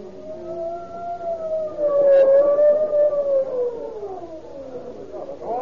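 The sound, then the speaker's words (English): An ambulance siren wails in a long, slow rise and fall, holding steady and fairly loud throughout as it draws closer, with no one speaking over it. “Oh, here comes the ambulance.”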